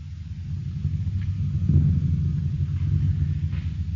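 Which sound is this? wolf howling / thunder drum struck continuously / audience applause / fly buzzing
thunder drum struck continuously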